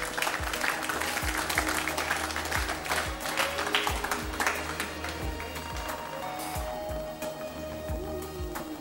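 A crowd applauds a contestant's pixel picture steadily for several seconds, dense overlapping claps at a fairly loud, even level, with faint rhythmic thumps underneath.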